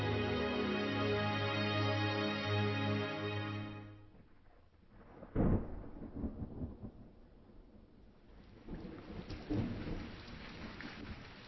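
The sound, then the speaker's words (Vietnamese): A sustained tonal drone fades into steady rainfall, broken by one sharp thunderclap and a low rolling rumble that swells again near the end; no one speaks. “Trong cơn mưa, đó là thời khắc người ta cảm nhận đầy đủ những gì mình đang có và cả những gì mình đánh mất.”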